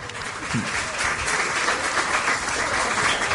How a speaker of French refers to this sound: Je vous demande d'applaudir chaleureusement,